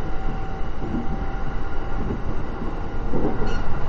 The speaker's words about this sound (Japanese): ご乗車ありがとうございます。この電車は高崎線快速アーバン上野行きです。